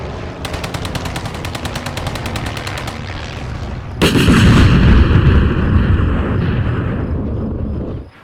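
Rapid machine-gun bursts rattle in a steady, evenly spaced stream for about three seconds, then a loud booming barrage of cannon fire erupts and rumbles on heavily before cutting off.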